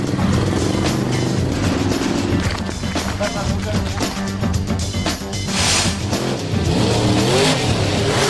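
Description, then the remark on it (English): Big monster truck engines, methane-powered and supercharged, roar and rev continuously at the start of a race in a Scrap Heap Monster Truckathon, a loud, dense throaty growl with rising and falling pitch, while a voice talks over the din. “Today, they're methane-powered and supercharged.”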